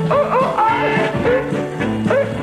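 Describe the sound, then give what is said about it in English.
Dogs bark and yelp in a rapid, overlapping chorus, loud, several high-pitched cries tumbling over one another without a pause for the whole stretch. “I got some good dogs. You hear?”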